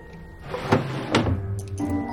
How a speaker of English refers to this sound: She opens the top drawer.